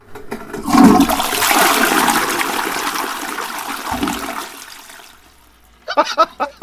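A toilet flushes with a loud rushing whoosh that swells and then drains away over about five seconds, followed by a brief pause and a burst of faint clattering.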